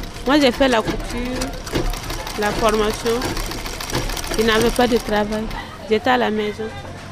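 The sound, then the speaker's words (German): A 1960s sewing machine, worked by a seamstress sewing fabric, runs steadily with a rapid mechanical whirring and clatter, while people talk over it throughout. “Sie sitzt hinter einer Nähmaschine aus den 60ern.”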